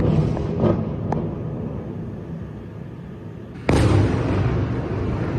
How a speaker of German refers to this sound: Russland hat in der vergangenen Nacht ukrainische Städte bombardiert, darunter die Hauptstadt Kiew sowie die Städte Charkiw und Sumy. Wieder gab es Tote